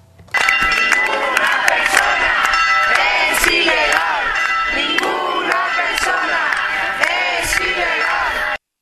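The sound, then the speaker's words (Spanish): A large crowd shouts chants together at a protest outside the Capuchinos immigrant detention centre in support of those held inside; the chants refer to the immigrants' irregular status, stressing that no person is illegal. Loud and continuous, voices rise and fall in rhythmic waves with sharp bursts of emphasis throughout. “Algunos de los gritos que lanzaban se referían al estado de irregularidad de los inmigrantes, recalcando que ninguna persona es ilegal.”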